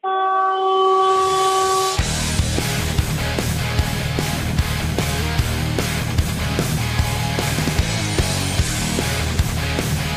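A loud, sustained trumpet blast marking a change on the radio show holds one steady, brassy note for about two seconds, then gives way to busy, rhythmic music with a thumping beat.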